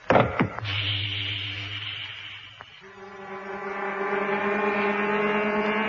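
Ship's pumps in the hold of a freighter start up to fill a tank, with a few sharp mechanical clunks, then a low droning hum that shifts up to a steadier, higher-pitched whine and holds, loud and continuous, with no voices.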